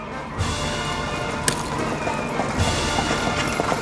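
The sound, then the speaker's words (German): A splendid horse-drawn carriage carrying a young king rolls along, with hooves clip-clopping over a steady rattling, grinding rumble of wheels that grows slightly louder toward the end. “Das Mädchen aber war wiederum gehorsam, ging hin, hackte ein Loch in das Eis und als es mitten im Hacken war, kam ein prächtiger Wagen gefahren, worin der junge, schöne König saß.”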